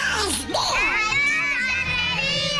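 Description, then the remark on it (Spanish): A person imitates the voice of Donald Duck, a loud, raspy, squawky babble with wildly swooping pitch that runs continuously for a few seconds. “Tiene una voz como muy finita y grita mucho al hablar, como si tuviera algo en la garganta.”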